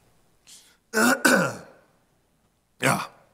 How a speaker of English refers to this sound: I'm just distracted by my cough this morning.